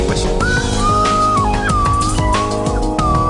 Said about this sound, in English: That's what they call a slide whistle.